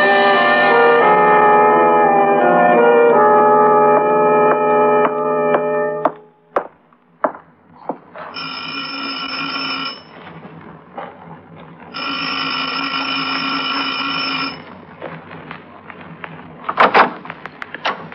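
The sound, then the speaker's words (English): Police ring a doorbell at midnight at an apartment on 112th Street: a long, steady burst, followed by a few knocks or clicks, then two more shorter sustained bursts. Loud, with no talking. “How come you're pushing doorbells at police?”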